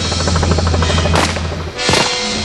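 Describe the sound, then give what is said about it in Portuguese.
Two sharp gunshots, fired from a motorboat at a pursuing boat's searchlight as the boat rises on a wave, crack out about a second apart over the steady, droning roar of the motorboat engine. Each shot rings briefly before fading back into the engine noise. “Tenho que esperar a lancha subir numa onda para então disparar.”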